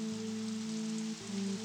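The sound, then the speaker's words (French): Steady rain falls in a continuous soft hiss, with a low sustained musical drone humming underneath throughout the short stretch. “Il ne fait pas beau. Il pleut.”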